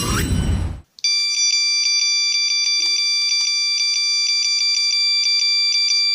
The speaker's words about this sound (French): Est-ce que ça serait pas le temps de s'écouter un petit coup de Nokia 3310 ? Bah si, évidemment ! Et d'ailleurs, c'est déjà le dernier morceau avec le Nokia.